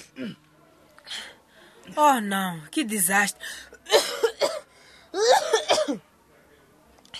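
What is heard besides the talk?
coughing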